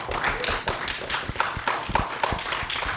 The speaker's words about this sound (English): That's right. You did come up with George Hates Metal. Everybody applaud for that one.